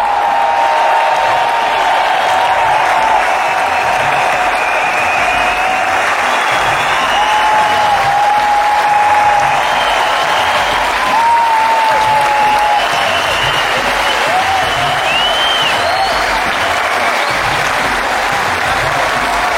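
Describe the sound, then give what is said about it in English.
Sustained, dense applause from a large audience for every member of a team, loud and steady for the whole stretch, with a few faint whistles and cheers rising above the clapping. “I just wanted to give a really special round of applause to every single member of our team.”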